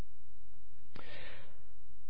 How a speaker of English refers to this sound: I hear you breathing.